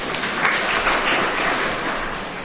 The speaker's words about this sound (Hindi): बहुत अच्छा भाई, ताली बजाइए।